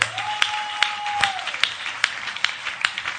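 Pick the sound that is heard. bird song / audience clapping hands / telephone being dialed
audience clapping hands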